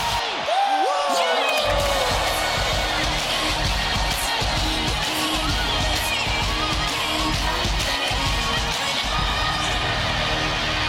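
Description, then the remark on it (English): A huge, record-breaking WrestleMania arena crowd in Texas roars and chants steadily, a loud, dense wall of voices with a rhythmic pulse that holds for the whole stretch, after a brief rising whistle at the start. “And then a record-breaking crowd in Texas will be chanting one thing.”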